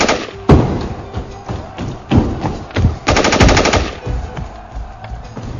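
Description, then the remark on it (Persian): Bursts of rapid automatic gunfire crackle, with heavy thumping shots and a sustained rattling volley in the middle, loud and echoing with no voices; fired in the middle of the night inside a military training building. “نصف شبا میومد داخل ساختمان آموزشی و با تیراندازی عربده میکشید که به شمارش 3 از طبقه 5 آسایشگاه بدویم دم در.”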